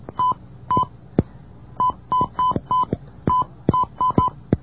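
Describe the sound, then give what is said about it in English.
A voice imitates telephone dialing tones, as of dialing an access number and special code for an overseas call to Korea: about a dozen short, steady, beep-like notes in a quick, uneven sequence, broken up by sharp clicks, with no words spoken. “How does your voice make all those tone-like noises, by the way?”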